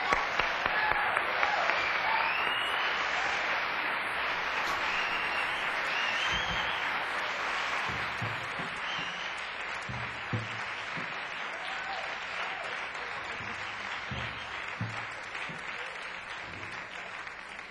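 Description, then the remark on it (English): A concert crowd applauds steadily and loudly as a quintet is introduced, dense clapping with scattered whoops and cheers, sustained throughout without letting up. “Let's get it off with a great big round of applause”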